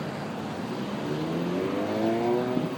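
The deep engine of an old-school muscle car in black primer revs up steadily, its pitch climbing through rising harmonics over a continuous rumble, moderately loud with no voices.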